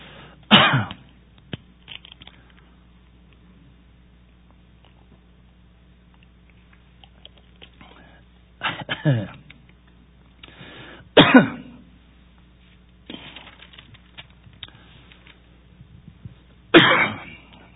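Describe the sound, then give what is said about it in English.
Several harsh coughs and throat-clearing bursts come in separate fits, spaced a few seconds apart with quiet pauses between, fairly loud, with no talking. “Hang on just a second. This is an important point, and I don't want to cough it up.”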